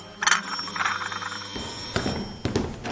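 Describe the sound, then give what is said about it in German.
A doorbell rings several times in quick succession, bright bell-like tones chiming fairly loud, with no one speaking. “Der Nachrichtenton ihres Handys gehörte dazu. Oder auch die Türklingel.”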